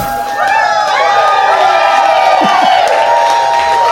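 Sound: audience clapping and cheering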